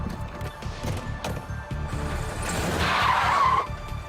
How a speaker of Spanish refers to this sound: Se alejaron a toda velocidad.